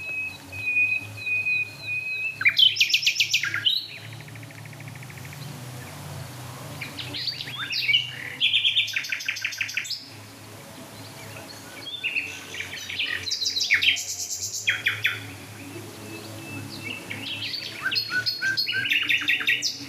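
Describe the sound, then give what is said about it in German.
Four or five nightingales sing at once, their phrases overlapping: rapid repeated notes, high whistles and rattling trills in bursts that rise and fade, with no talking over the chorus. “Also wir hören jetzt gerade, ich höre jetzt gerade vier Nachtigallen gleichzeitig.”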